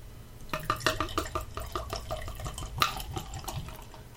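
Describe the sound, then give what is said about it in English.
Beer pours from a growler into a glass, a steady gurgling stream with bubbly splashes and small clinks for a few seconds, no voices. “Oh, look at that. Perfect pour”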